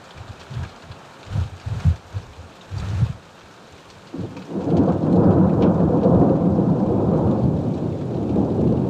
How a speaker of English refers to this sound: And that's why I stop and swim in the lake and sit under this boulder and watch this rain.